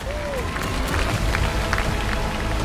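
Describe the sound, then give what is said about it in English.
Several sharp hand claps for an actor from The Wire and Thor ring out at an uneven pace over a dense, steady wash of crowd noise and murmuring voices, the claps moderately loud. “Every time I see him, I gotta clap it up.”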